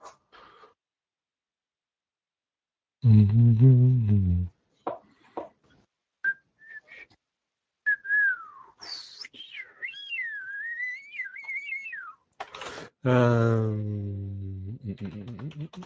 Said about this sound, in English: Shocking, isn't it? Semi-pro whistling and humming. Who'd thought of that?